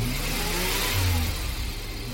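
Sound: car engine accelerating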